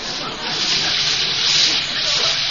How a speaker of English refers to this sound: Well, now for a nice hot shower and then to bed. Well, let me reach behind the curtain here and turn on the water. I'll let it get good and hot.